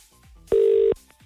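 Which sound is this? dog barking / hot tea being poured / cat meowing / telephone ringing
telephone ringing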